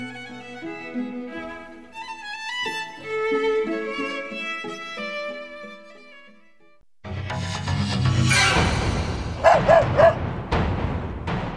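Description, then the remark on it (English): Light, bouncy music plays, then abruptly gives way to a dog barking loudly, a rough burst of repeated barks with a few sharper yelps near the end. “The dog wants its tea.”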